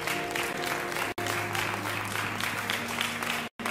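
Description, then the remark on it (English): An audience claps steadily in a dense, sustained wash of applause for everyone who participated in the Youth and Young Adults Day, with a low musical hum underneath, broken by two brief cuts to silence. “I would like us to give a round of applause for everyone who participated in our Youth and Young Adults Day today.”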